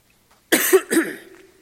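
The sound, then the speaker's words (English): A loud double cough, two harsh bursts in quick succession trailing into a brief raspy throat sound, with nothing else around it, from a speaker with a frog in the throat. “Excuse me while I cough.”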